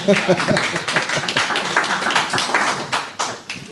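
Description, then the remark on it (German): A crowd applauds, a dense, steady patter of many hands clapping for a few seconds, with a brief voice-like cry near the start rising over the clapping. “Ich weiß jetzt auch, was ich tun muss für Applaus, glaube ich.”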